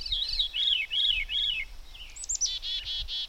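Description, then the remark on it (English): A bird sings alone: a series of four rising-and-falling whistled phrases, then a quick run of rapid trilled notes, with quiet low rumble underneath and no voices. “None of us spoke while the songs of the birds poured undiluted.”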